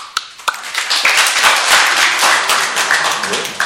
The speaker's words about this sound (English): And Prabhupada says, you clap your hands in front of the deities. Clap.